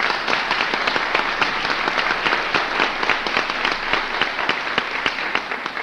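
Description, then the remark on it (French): An audience in a hall applauds steadily for about six seconds, a dense wash of many hands clapping at a fairly even loudness with no one speaking over it, applauding the behind-the-scenes workers and students of a yeshiva. “jusqu'à ceux qui sont des talmidim, avec ici dans cette salle ceux qui ne doivent pas être oubliés et qu'il faut applaudir et encourager, ce sont les travailleurs dans l'ombre, les véritables élèves de la yeshiva, les futurs talmid et hachamim.”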